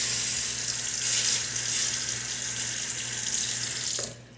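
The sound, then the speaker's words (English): A steady sizzling hiss of tissue being burned during a procedure, continuous and fairly loud for about four seconds before cutting off abruptly near the end, with no voices. “You heard the sizzling.”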